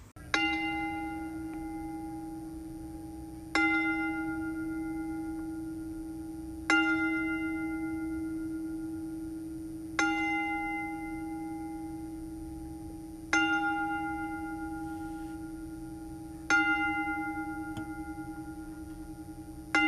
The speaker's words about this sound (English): On March 14th, 2022, we lost a legend in the wrestling world in Scott Hall. Now, to honor the man, we will toll the bell.